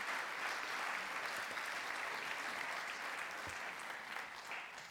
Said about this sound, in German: Vielen Dank. Das wäre jetzt der Moment zum Klatschen.